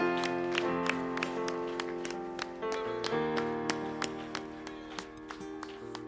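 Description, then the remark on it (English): A church audience claps hands to the Lord in a steady, brisk rhythm during a worship service, sharp claps landing over sustained organ-like chords that keep playing underneath. “go ahead and allow a brief hand clap to the Lord to come down off of that high right there.”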